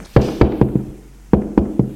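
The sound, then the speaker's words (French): A woman knocks on a door off a first-floor corridor: two quick sets of knocks, four sharp raps, a short pause, then three more, each hit a dull, resonant thud with no voices. “Au premier, elle suit un couloir et frappe à une porte.”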